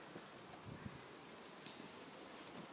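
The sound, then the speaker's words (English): Wind blows steadily outdoors on a very windy, partly sunny, not cold day in late October 2014, a continuous airy rush mixed with the rustle of leaves, fairly soft and even throughout with no one speaking. “And it's a very, very windy day.”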